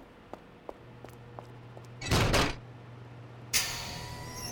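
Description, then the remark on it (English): An office door slides shut with a brief rushing burst, followed by a sharper impact and a lingering hiss. A few faint clicks come before it, with no talking. “Go to my office, shut the door, and hold your tongue.”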